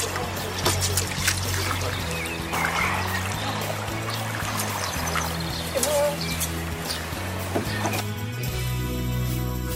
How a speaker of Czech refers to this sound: Co to bylo za zvuky? To byly zvuky Labe a sportu, který se provozuje i na Labi.